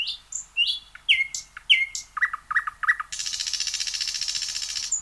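A nightingale sings up close, a run of varied whistles and sharp chirping phrases, then a fast, steady buzzing trill that carries on to the end. No voices.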